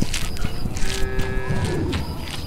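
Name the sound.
bull mooing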